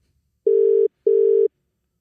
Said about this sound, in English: Hello. You are receiving a phone call from the county jail.